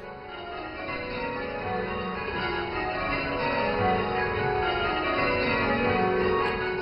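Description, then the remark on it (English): Several church bells ring in change ringing, rung in a set order, continuous overlapping peals forming a dense, steady cascade of clanging tones at a fairly even loudness, with no voices. “It sounds like bells in perhaps a church.”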